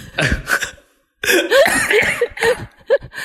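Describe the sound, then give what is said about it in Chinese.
Loud coughing from a person with a cold and an itchy throat: a couple of quick harsh coughs, a brief silence, then a longer rough fit of hacking with throaty, strained breaths between bursts. “我是觉得咳嗽有点暴露你的年纪。”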